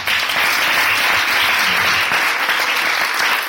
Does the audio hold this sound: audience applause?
yes